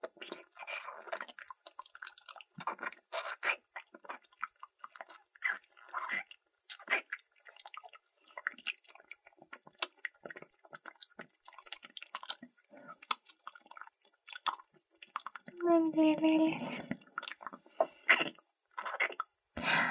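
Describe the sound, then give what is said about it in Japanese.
Wet, squelchy chewing with saliva, a steady irregular stream of smacks, clicks and sticky squishes, with a brief voiced hum rising over the chewing toward the end. “くちゃくちゃ、唾液が、混ざり合ってるね。”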